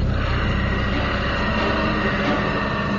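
A steady, loud mechanical drone from the hydraulic pumps of a C-46 aircraft as it goes into the Fort Good Hope airstrip, dense and rumbling with a faint whining hum layered on top, holding constant throughout with no voices.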